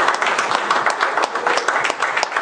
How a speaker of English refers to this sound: Give our ladies a hand of applause.